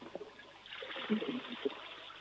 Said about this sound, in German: Ja, das war die Klospülung von der Anna.